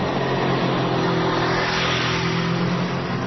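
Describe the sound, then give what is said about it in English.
A motorcycle engine revs loudly, holding a steady, throaty roar for a few seconds with a slight rise in pitch, and no voices. “If you love motorcycles, you need to call Geico.”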